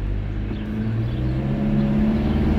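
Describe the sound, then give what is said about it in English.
A car engine hums steadily from inside the vehicle while driving, a loud low drone with a faint rise in pitch as it revs slightly. No one speaks. “Yo, gang, can you just at least drive correctly?”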